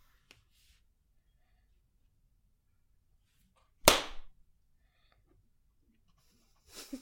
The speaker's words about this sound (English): how do you feel about that clap?